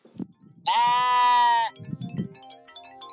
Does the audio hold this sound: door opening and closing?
no